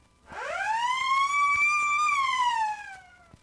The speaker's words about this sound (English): You will know it's time to turn the page when you hear the police siren wail. Like this.